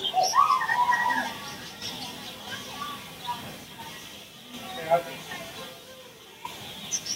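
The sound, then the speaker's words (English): Birds chirp and coo in a busy bird-feeding enclosure at the Indianapolis Zoo, flying all around the recordist's head, with scattered calls throughout and a faint murmur of people's voices in the background. “So this is in the bird enclosure, and here they are flying all around my head.”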